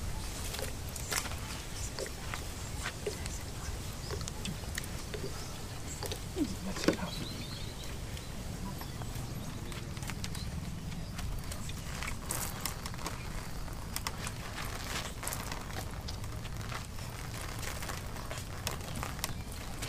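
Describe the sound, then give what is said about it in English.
Steady rainfall with a dense, crackling patter of drops and a low rumbling wash underneath, continuous and even throughout, with no voices. “Okay, for the rain.”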